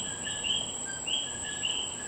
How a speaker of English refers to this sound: Right now, I'm in Gonzales Street, walking around, and next to this beautiful house, there is a mango tree in which a community of coquis lives.